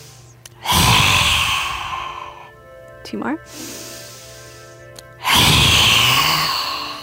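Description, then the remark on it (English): Two long, forceful breathy exhales in a breathing exercise, roaring like a lion with the tongue stuck out down to the chin, harsh and hissing like a growl, one at the start and one at the end, with a short spoken phrase between them. “And you'll roar like a lion.”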